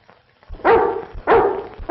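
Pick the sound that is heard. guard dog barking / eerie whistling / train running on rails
guard dog barking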